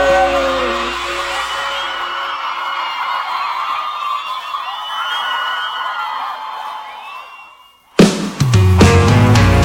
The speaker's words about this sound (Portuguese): Salva de palmas